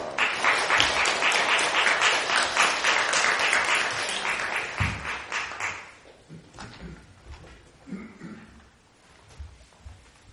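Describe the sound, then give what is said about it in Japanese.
An audience at a morning church worship service breaks into loud, dense applause for about six seconds to welcome the preacher, a steady wash of many hands clapping, then it fades quickly into quiet rustling and a few scattered low sounds. “大きな拍手を持ってお迎えしましょう。”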